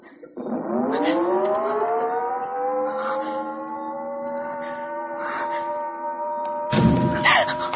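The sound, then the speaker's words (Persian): An air raid warning siren, the danger alert signalling that an air attack will take place, winds up from a low growl to a steady, sustained wail with layered harmonics, holding its pitch for several seconds before a few dull thumps near the end. “علامتی که همتون میشنوید اعلام خطر یا وضعیت رمز و معنی و مفهوم آن این است که حمله هوایی انجام خواهد شد.”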